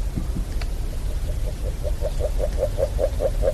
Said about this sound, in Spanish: Sí, es que esto es increíble, el poder gozar de este canto, este croar de la rana ágil, que como bien decías tú, está entrelazado con la cigüeña